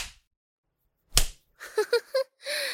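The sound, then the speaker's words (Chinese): A single sharp, loud slap across the face of Sun Wukong, the Monkey King, cracks out after a moment of silence, followed by a few short wordless vocal sounds, like pained grunts or murmurs. “孙猴子，被扇耳光的感觉爽吗？”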